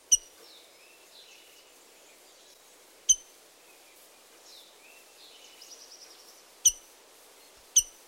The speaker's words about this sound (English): The rose-breasted grosbeak also has a distinctive metallic chink.